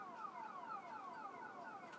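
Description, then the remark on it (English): A town alarm that goes off every couple of weeks because of windy weather blares steadily. It is a rapid series of falling electronic tones repeating several times per second with no pauses, fairly quiet but continuous, and no voices. “I don't know why they just don't get a silent alarm or...”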